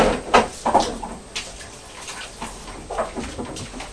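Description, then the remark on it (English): A fridge door is pulled open to get an apple out, with a couple of clicks and thumps followed by soft rattling and rustling of items inside, no voices present. “So it's your open fridge door.”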